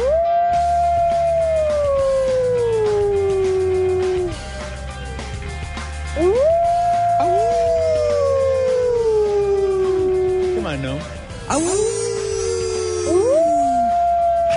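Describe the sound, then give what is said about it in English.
A coyote howls four times in a row, each long, clear cry sliding slowly downward. The howls sound loud over a low, steady rumble, with brief higher yips near the end. “I mean, Manhattan is being overrun by coyotes.”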